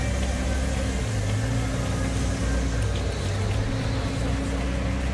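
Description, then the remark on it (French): A steady, low engine hum fills the space, like a car running heard from inside the cabin, with constant rumble and no pauses. “Les vibrations du moteur lui faisaient l'effet d'un massage qu'elle voulait interminable.”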